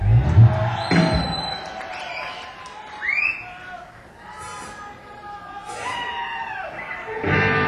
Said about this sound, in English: Thank you, ladies and gentlemen, for a wonderful round of applause.